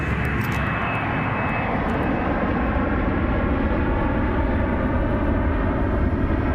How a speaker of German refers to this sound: Und als das Flugzeug mit Leonora landet, da wurde ich gleich vom LKA empfangen, von meinen Fallleitern.